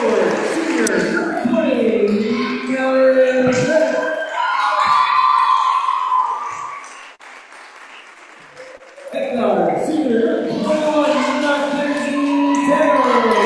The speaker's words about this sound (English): As you can hear, it's a nice crowd on hand tonight. Rooting these ladies on as the season winds down.